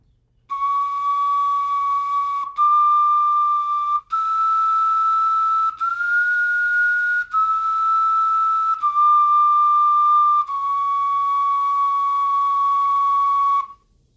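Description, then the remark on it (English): A replica Neanderthal bone flute plays a slow run of long, breathy held notes in a mid-high register, the pitch stepping and sliding slightly between them, with no voices. “if it is a flute, it is also likely to be a Neanderthal instrument”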